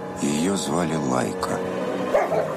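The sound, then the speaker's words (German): Stray dogs on the outskirts of Moscow bark and yelp in a quick, uneven string of calls, fairly loud, with a last sharper bark near the end. “Eine Frau, die mit streunenden Hunden am Rand von Moskau lebt,”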